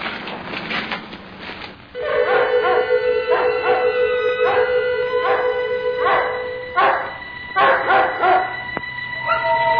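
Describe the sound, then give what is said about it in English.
Several dogs howl together in long, wavering, drawn-out cries that overlap and rise and fall over repeated bursts, fairly loud, with no one speaking. “Comparatively quiet, with the exception of a few dogs howling.”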